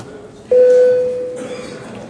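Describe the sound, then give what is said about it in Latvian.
A parliamentary bell sounds once to signal the vote on amendments to the Criminal Procedure Law in its second and final reading: a single loud, clear mid-pitched tone that rings for under a second and fades, over a low murmur of background noise. “Paldies, lūdzu zvanu.”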